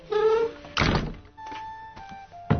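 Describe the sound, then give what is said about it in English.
A heavy wooden door of the John Howland house in Plymouth, the only house still standing there where a Mayflower pilgrim lived, swings shut: a brief creaking squeal, then a deep, solid thunk, some faint rattling, and a second, sharper knock as it settles. “welcomes our crew and bids us close the door.”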